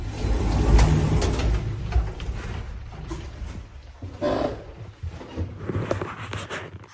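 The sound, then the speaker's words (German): An elevator door slides open at floor 1 with a low mechanical rumble and a few soft clunks, the whirring motion lasting several seconds before fading out. “Tür öffnet.”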